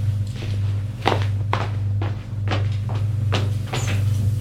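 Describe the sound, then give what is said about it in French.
A woman shuts a door and locks it with a key: a string of about six wooden clunks and clicks in an uneven rhythm, moderately loud, over a steady low hum with no talking. “Ferme la porte à clé.”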